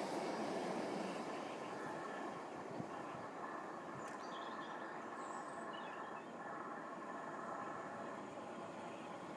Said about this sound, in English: Here's our train.